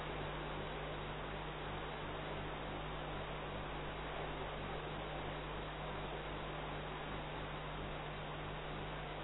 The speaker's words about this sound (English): Take the example. Listen to the hissing sound of the fan.